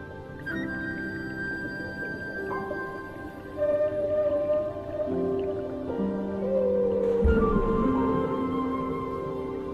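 Whale calls: long, eerie tonal moans and groans with slowly sliding pitch, several overlapping tones sustained throughout, fairly loud with a low rumble underneath and no talking.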